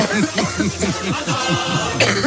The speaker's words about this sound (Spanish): Tengo que toser.